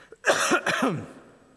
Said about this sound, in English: I just got finished talking about being sick. I knew I was going to start coughing during the middle of this sermon.